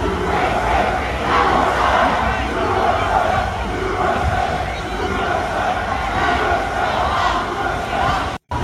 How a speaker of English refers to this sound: What you have there is a group of students who came out, and while they were trying to yell, "Palestine, Palestine," they began chanting USA. And they're chanting it louder. There was way more of the counter-protesters.